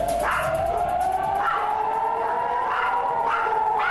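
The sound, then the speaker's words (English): An air raid siren wails steadily amid fighting between Israel and Hamas, a loud sustained tone that slowly climbs in pitch, with faint recurring bursts of other noise behind it and no voices. “Air raid sirens as fighting intensifies between Israel and Hamas, with explosions seen in the Gaza skylines and the Iron Dome in action as rockets are launched against Israel.”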